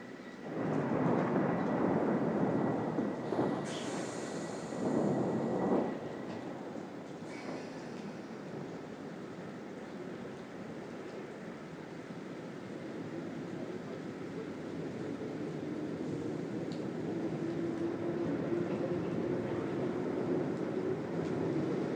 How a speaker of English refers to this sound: And for everybody on the platform... Piccadilly line seems to have become stuck.